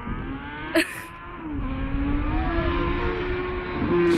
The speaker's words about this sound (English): Here comes a motorcycle.